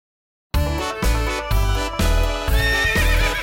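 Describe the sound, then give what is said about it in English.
A horse neighs loudly, a long wavering whinny set over a steady, rhythmic backing beat that pulses about twice a second, in a chant-along track. No one speaks. “The farmer has a horse.”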